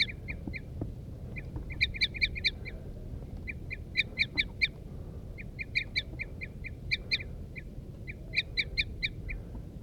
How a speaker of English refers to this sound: Start recording. The birds are chittering now. There they go. The wild birds are taking off now.